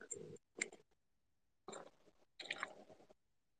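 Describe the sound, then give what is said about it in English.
Wet sipping of bottled Starbucks coffee through a straw: four short slurping bursts separated by brief pauses, fairly loud, with no talking. “I think a straw in the little Starbucks bottles is so cute. I'm gonna take a sip.”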